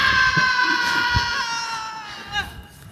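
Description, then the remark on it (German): A loud, high-pitched scream from a film clip being played holds steady for a couple of seconds, its shrill tone sliding slightly downward before a brief catch and fade near the end. “Aber gut, dass man es nochmal schön, das Arg nochmal so, man hört es ja nicht genug schreien.”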